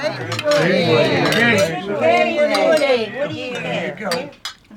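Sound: glasses clinking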